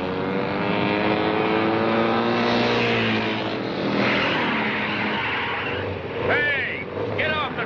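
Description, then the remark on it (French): Several loud motorcycle engines drone and rev steadily at a motorcycle race in a film scene where about forty young men in black leather jackets, led by Marlon Brando's character, invade the track, with rising whines near the end and voices mixed in. “une quarantaine de jeunes vêtus de blousons de cuir noir, marqués d'une tête de mort, menés par un leader charismatique, Brando, déboulent dans une course de moto et envahissent la piste pour y semer la pagaille.”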